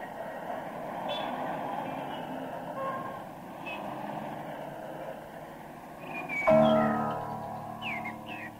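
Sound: train running on rails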